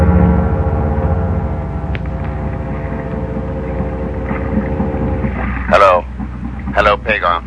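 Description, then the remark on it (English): An approaching speedboat's motor drones steadily on the ocean at night, a low harmonic hum that holds its pitch throughout, with brief bursts of voices breaking in over it toward the end. “Hey, there's a speedboat coming over here.”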